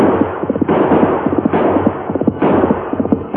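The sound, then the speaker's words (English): Gunshots ring out, several sharp cracks spaced about a second apart, fired by an outlaw on a black horse who is leading a sorrel and turns to shoot during a chase across a plain. A steady, dense clatter and rumble carries on beneath them without pause. “Then the hawk turned and fired.”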